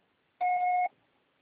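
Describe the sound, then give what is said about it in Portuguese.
A single steady voicemail recording beep, the signal after which the caller is charged: a flat electronic tone lasting about half a second, sounding alone against near silence with no speech. “Você só será tarifado após o sinal.”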